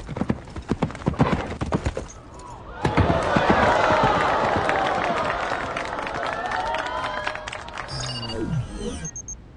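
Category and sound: animal, horse hooves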